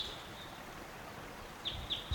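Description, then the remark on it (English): A single bird calls as it flies over, giving two short, high chirps in quick succession near the end, over a steady faint hiss with no talking. “There was a flyover. It sounded like one bird.”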